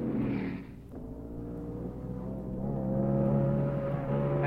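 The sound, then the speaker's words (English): Race car engines roar as cars funnel into turn nine at the Los Angeles Times Grand Prix with slower cars in the way, in a sustained, high-revving drone, their pitch shifting as they accelerate. The noise is loud and steady throughout, with no voices. “Funnel into turn nine with slower cars in the way, but Bruce McLaren gets it in front of his teammate Denny Hall.”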